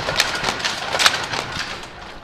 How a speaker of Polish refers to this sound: W tym pomieszczeniu mamy szansę zobaczyć i usłyszeć pracę starych maszyn, między innymi starych krosien.